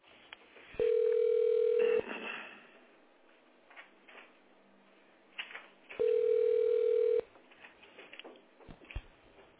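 A steady, mid-pitched telephone tone-dialing signal on a call to the Smolny telephone exchange sounds twice, each beep lasting about a second with a pause between them, over faint background line noise and soft clatter.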